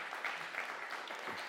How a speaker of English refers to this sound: It might be distracting if you left, let it on, but give a round of applause for these two.